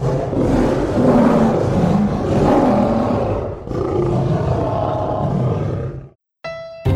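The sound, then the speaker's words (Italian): A lion roars loudly, a deep rumbling growl that swells and continues for about six seconds before cutting off abruptly, followed by a brief tonal sound. “Sì, magari senza essere divorato da leoni.”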